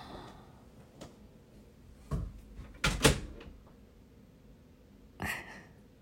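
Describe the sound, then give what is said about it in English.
A door is pushed shut: a soft knock, then a louder solid thump with a latch click, and a final lighter clunk a couple of seconds later, against quiet. “Let me close the door.”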